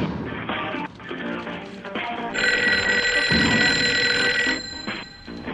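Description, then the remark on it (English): A hotel telephone rings loudly and continuously, its bright metallic bell trilling for a few seconds, with a busy clattering background and no one speaking. “I have to answer the phone, then we get to the reservation.”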